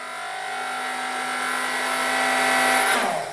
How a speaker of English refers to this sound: Yep, it's the blender. Why would we want to control the blender with the volume knob?